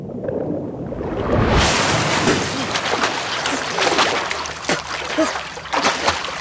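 Loud, continuous splashing and sloshing of lake water bursts in after a brief quiet start, with repeated surging splashes as a boy swims up towards the surface with powerful strokes, holding another boy.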